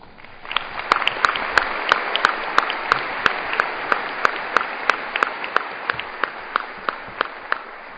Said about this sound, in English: So I'd ask all our legislators to stand up if we could give them a round of applause.